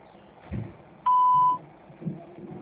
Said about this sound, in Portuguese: Por favor, deixe sua mensagem após o sinal.